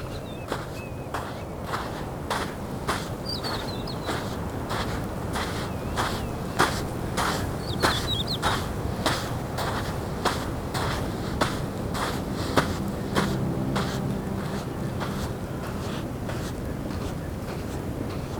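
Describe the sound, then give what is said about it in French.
A steady low rush of wind blows beneath a regular rhythm of crunching footsteps in sand while climbing a dune in an almost desert-like setting, about one or two steps per second. The wind strengthens and the gusty roar fills out somewhat toward the end. “Le vent est en train de forcir car je remonte la dune.”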